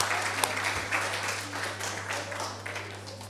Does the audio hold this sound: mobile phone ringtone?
no